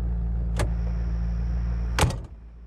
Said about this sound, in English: You left your car running. You thinking of making a quick getaway?